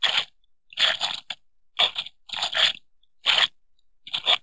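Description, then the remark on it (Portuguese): Feet squelch through thick, sticky mud in a run of about seven wet, sucking bursts, each step heavy and uneven, with short pauses between them and no voices. “Lama grossa e pegajosa. Não podemos passar por cima. Não podemos passar por baixo. Oh, não. Temos de atravessá-la.”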